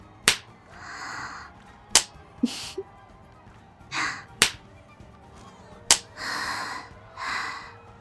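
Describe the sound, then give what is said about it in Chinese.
Four sharp, crisp slaps of a disciplinary ruler (jiechi) used for spanking punishment, spaced a couple of seconds apart, with soft breathy exhales and gasps between the hits. “喜欢我直接用手吗？可是那样的话，周围的人都会听到了呀。我想还是用戒尺吧。”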